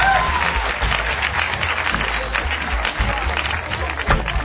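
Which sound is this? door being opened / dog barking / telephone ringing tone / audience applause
audience applause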